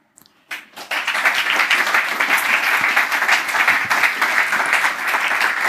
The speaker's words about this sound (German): Hallo, danke schon mal für diesen Applaus. Hebt euch das noch ein wenig auf für unsere Teilnehmerinnen und Teilnehmer. Die haben den Applaus gleich doppelt und dreifach verdient.